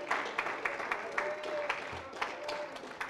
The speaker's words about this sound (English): I believe you ought to give the Lord another clap offering of praise. Amen.